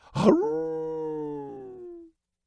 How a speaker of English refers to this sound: The scout disappears, and a moment later the sound that has plagued my dreams from the Palatine to the belt finds me in the desert waste. The sound could only come from a legion escorting the Reaper. The howling of wolves.